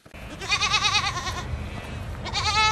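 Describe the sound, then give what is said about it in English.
Young dairy goats, 19 kids used to clear weeds on Queensland's Sunshine Coast, bleat loudly in a long, wavering cry as they come running through an opened gate, followed by a second quavering bleat after a short pause, over a low rumbling background. “opens his gate, every one of his 19 kids come running, followed by their guardian Maremma sheepdogs, Ranger and Luna.”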